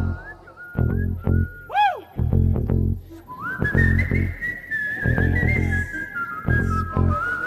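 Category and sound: human body sound, person whistling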